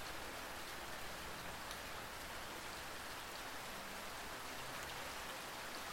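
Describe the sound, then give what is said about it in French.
Steady rain falls on wet pavement, a dense, even hiss of countless drops with no pauses, consistent throughout, with no voices or other sounds. “Sentez l'odeur caractéristique de la pluie. Des néons qui se reflètent sur les trottoirs mouillés.”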